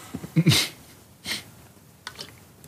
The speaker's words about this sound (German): Du hast auch Tränen in den Augen. Weil ich gerade husten musste.